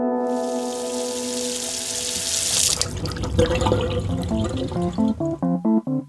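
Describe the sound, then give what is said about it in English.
Water gushes steadily from a tap for about three seconds, a close, hissing stream, then fades under a run of short, rhythmic tonal notes. No one speaks. “For many Americans, turning on the tap and being able to brush your teeth, take a shower, or even boil an egg with the water that comes out of it is pretty normal.”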